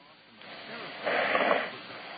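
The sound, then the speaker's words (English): Soft, breathy noise over a narrow phone line as a radio call-in caller from New Jersey breathes into the receiver, swelling into a louder airy rush midway and then fading back, with no words spoken. “I hear you breathing there.”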